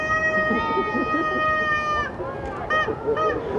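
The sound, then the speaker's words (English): A duck call blown by a young man during a multi-vehicle welcome-home caravan as people line the streets of Atlantic: one long, reedy, nasal note for about two seconds, then three short quacking blasts, over a steady rumble of background noise. “was obviously happy to be home as he blew his duck call and waved to the people.”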